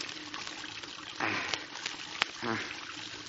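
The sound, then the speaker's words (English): Water rushes steadily from a faucet as it is opened, a continuous hissing gush, broken by a couple of sharp clicks and two brief squeaky bursts partway through. “Now, I'll just open this faucet and”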